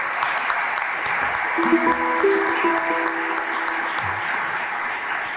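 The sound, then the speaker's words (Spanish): Sustained audience applause in tribute to Jaime Torres, a dense steady wash of many hands clapping at even loudness, with a few faint tonal notes and a brief low sound appearing partway through. “Pido un aplauso para Jaime, así, donde esté.”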